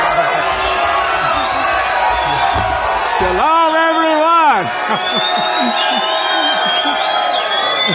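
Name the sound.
crowd cheering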